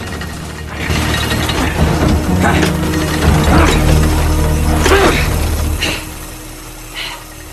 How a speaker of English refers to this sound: In the boathouse, Luke rows frantically on the practice machine, the cogs and gears grinding under the strain.